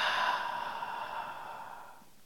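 A slow, steady exhalation during a breathing exercise, a soft airy breath out with a gentle hiss that holds fairly even for about two seconds, then fades away. No talking.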